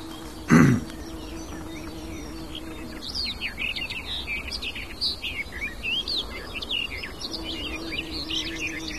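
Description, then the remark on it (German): A songbird sings a long, varied warbling song of quick high chirps and whistled phrases, with some blackbird-like notes mixed in, after a brief loud thump at the start. “Und auch sie streut Imitationen mit rein. Man klingt so, es klingt so ein bisschen die Amsel raus.”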